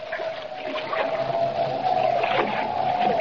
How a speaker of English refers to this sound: Boarding Jimmy's small catboat, Kent embarks on the short run to Lighthouse Point over choppy water and in a freshening wind.